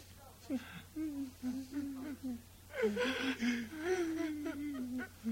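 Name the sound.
crying and sobbing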